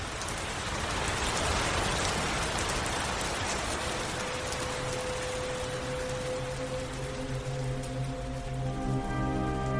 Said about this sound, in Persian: سرمو گذاشتم روی میز چوبی، چشامو بستم و چند دقیقه فقط به صدای قطره‌های بارون گوش دادم.